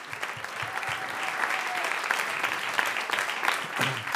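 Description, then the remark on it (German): Sustained applause from a crowd, a dense steady patter of many hands clapping at moderate loudness for several seconds, with a faint murmur of voices mixed in. “Oh, ein Applaus.”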